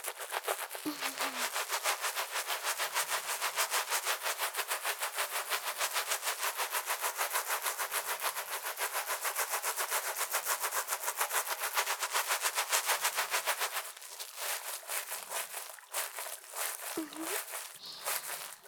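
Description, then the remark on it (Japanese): Hair being lathered and washed with shampoo: a dense, rapid crackle of foamy scrubbing runs steadily throughout, turning slightly softer and more broken in the last few seconds. “いい感じに泡立ってきましたので、このまま洗っていきまーす。”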